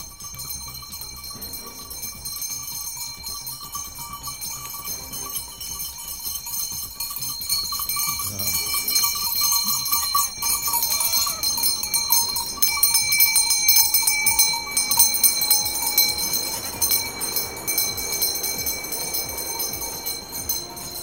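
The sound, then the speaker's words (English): Goats outdoors, with bells clanking and jingling steadily throughout and a few bleats rising up partway through. No one speaks. “And to wrap up this week's episode, your cute goat moment of the week.”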